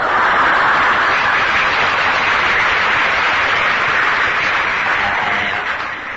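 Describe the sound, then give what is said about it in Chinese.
A crowd breaks into steady applause, a dense wash of many hands clapping at once, loud and sustained throughout before easing slightly at the very end. “我在闹愧于我自己，你怎么也鼓掌呢？”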